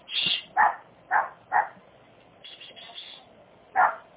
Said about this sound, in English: I am so sorry. I don't know why she's barking.